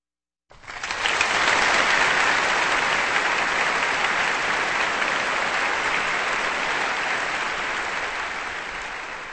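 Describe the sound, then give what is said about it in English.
Sustained applause from a large audience for the BBC Symphony Orchestra after its performance of Martinu's mid-1950s tone poem Frescoes of Piero della Francesca, broadcast on Kansas Public Radio; a dense wash of clapping that starts abruptly, holds steady and loud, then tapers slightly without any voices. “Applause for the BBC Symphony Orchestra, and a tone poem from the mid-1950s by Czech composer Boleslav Martinu, Frescoes of Piero della Francesca, on Kansas Public Radio”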